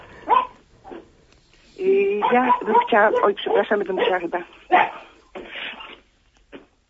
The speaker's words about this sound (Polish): Słychać. Ale też pieska słychać przy okazji. Przepraszam, chwileczkę.